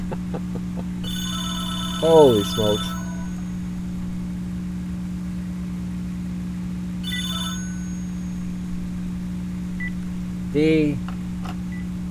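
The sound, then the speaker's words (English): A telephone rings in short electronic bursts of bright, steady tones, heard twice over a constant low hum, with a brief spoken exclamation in between. “So today has been one of those nights where the phone is ringing.”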